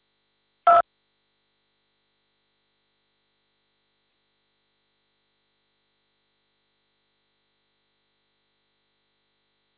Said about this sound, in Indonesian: Selepas bunyi beep, rakam mesej anda diikuti dengan kekunci hash.